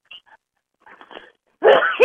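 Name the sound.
sneeze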